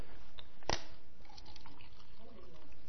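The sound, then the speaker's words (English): Poland Spring bottled water being poured: a sharp click, then a soft, steady trickle of liquid running for a couple of seconds, with faint room noise underneath. “I need that water.”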